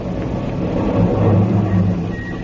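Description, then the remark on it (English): A car engine rumbles low and steady, swelling louder through the middle as the vehicle pulls in to park, then easing slightly at the end. No one speaks. “park your car.”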